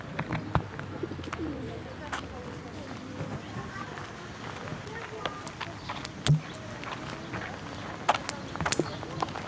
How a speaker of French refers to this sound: Bruit d'oiseau.